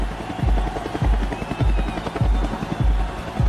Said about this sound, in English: When this huge pro-Chavez demonstration comes and essentially drives Carmona and his government out of the presidential palace, the military sends a helicopter to pick up Chavez.